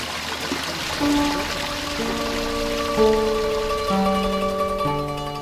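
Water flows and splashes in a steady, continuous wash in a Japanese garden, the Garden of Confluent Waters, while soft sustained musical tones change pitch roughly once a second over it. No one speaks.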